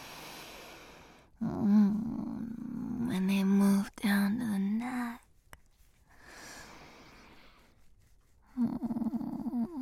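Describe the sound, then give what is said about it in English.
A person imitates a cat's purr with a throaty rolling voice, coming in three drawn-out bursts with soft breathy sounds and pauses between them. “Just being my super adorable, lovable kitty cat.”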